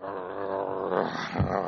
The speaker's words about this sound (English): You could hear the growls back to camp.